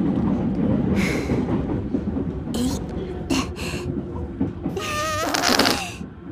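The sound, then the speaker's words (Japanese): A long, squeaky fart rises and wavers near the end, over the steady rumble of a moving train. Short hissy bursts come earlier, and quiet voices murmur in the background. “私のおならでいろんな人が注目してますよ。”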